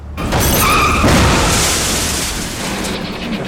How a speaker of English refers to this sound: But suddenly, another driver clips the fender of the second police car at 80 miles an hour. There's an explosion of glass, metal, and dirt. The vehicle continues another 500 feet before skidding to a stop.